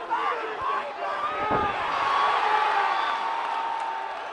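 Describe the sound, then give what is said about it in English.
A single heavy thud as a boxer knocked out in the first round hits the floor, cutting through a steady, loud roar of crowd noise with shouts and cheering that carries on around it. “only to get knocked out in the first round. Listen to him hit the floor.”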